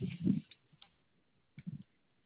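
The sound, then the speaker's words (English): Soft, rapid clicking of keys being typed, in two short bursts with a few scattered single taps between them, quiet and a little muffled as if heard over a phone line. “I'm typing.”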